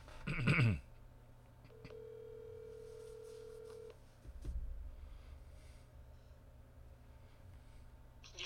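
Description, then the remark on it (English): A loud clunk like a handset being picked up, then a steady electronic phone-line tone for about two seconds before cutting off into a low hum of an open telephone line, as a disconnected caller is reconnected by phone line for an on-air conversation. “I can't hear Josh, so we'll have to try our phone line connection here.”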